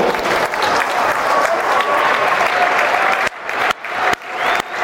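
A crowd at an award ceremony applauds loudly and steadily for the collection of the Lionesses Player of the Season award, the dense clapping holding for several seconds before breaking into a few brief pauses and bursts near the end.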